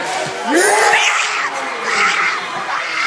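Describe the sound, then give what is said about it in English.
A large crowd at a basketball game between two rivals in Arkansas erupts in loud, sustained cheering after a buzzer-beater three-pointer, with high-pitched screams and whoops rising above a dense roar that swells and surges throughout. “Then when the crowd just, I knew he was excited when he hit it, but he didn't know that the crowd was going to probably come out.”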